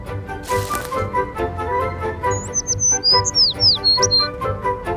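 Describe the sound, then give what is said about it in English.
A bird chirps and tweets in a quick series of high, sliding calls, fairly clear over a steady background hum and a brief burst of noise near the start. “It's a bird!”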